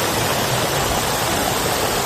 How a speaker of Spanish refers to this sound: Es la lluvia que está cayendo con fuerza desde esta mañana en el Mediterráneo, sobre todo en Cataluña.